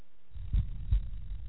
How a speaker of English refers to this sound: This is the actual sound of my heartbeat.